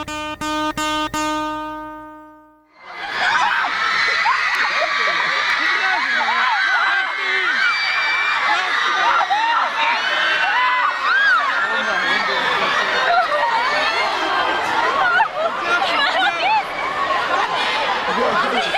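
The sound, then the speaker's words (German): After a brief tonal jingle, several hundred teenage fans, who have waited three to four hours outside the Hotel Sacher in Vienna to see a Canadian singer, erupt in continuous cheering, shrill screaming and shouting, a dense, loud wall of high-pitched voices that persists throughout. “Das sind mehrere hundert Teenager, die schon seit 3-4 Stunden vor dem Nobelhotel Sacher in Wien warten, um den kanadischen Sänger”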